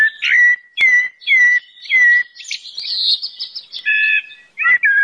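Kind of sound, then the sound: bird, common blackbird singing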